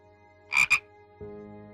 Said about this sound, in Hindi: आसपास कहीं भी कोई आहट नहीं, सिर्फ तालाब के किनारे से लगातार झिंगरों की झनकार और मेंढकों की टर टर सुनाई दे रही है।